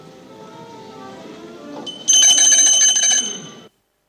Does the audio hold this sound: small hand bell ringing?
yes